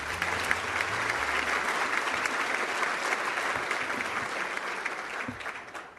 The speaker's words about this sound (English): That was a very lovely and telling video, so let's a little more applause for that, please.